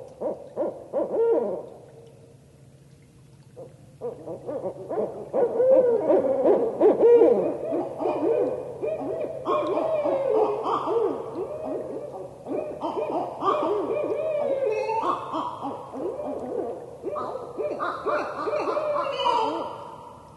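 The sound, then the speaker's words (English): A pair of barred owls trade loud, excited hoots and wild cackling caterwauls as territorial calls, overlapping in a rising, frenzied duet that fills the whole stretch, vigorous with no talking. “They're often doing that because they're hearing another pair or individual barred owl on an established territory, and that's when the pair starts really revving up and making those territorial calls.”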